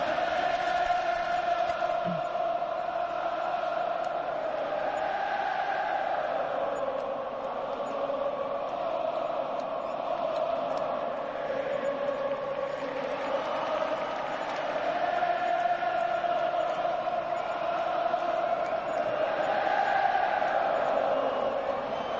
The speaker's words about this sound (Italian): E intanto ovviamente nel cielo di Madrid risuona una canzone a caso dei tifosi del Liverpool, possiamo anche sentirla.